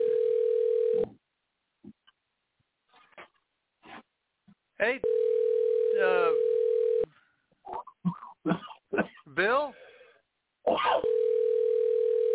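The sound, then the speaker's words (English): A steady, mid-pitched telephone ringing tone on the line sounds in long bursts separated by pauses. Between the rings, voices talk, and one voice calls out a name. “It's ringing.”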